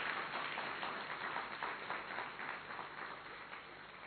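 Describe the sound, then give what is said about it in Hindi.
Steady audience applause at an assembly, a dense wash of many hands clapping without pause for several seconds, fairly soft and even in level, with no voices over it. “तालियां थोड़ी ठंडी ठंडी बजा रहे हैं, आप कमाल हैं।”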